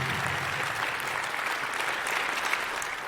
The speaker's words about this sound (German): Ja, liebes Haus, Sie dürfen gerne klatschen.